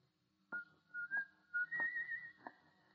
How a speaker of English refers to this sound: I met …. And he was coming down the street. He was whistling as he approached